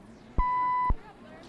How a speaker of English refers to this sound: Give me a beep there.